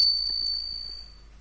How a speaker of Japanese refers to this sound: こうして談笑しているうちに玄関のチャイムが鳴った。また誰かが来たのだろう。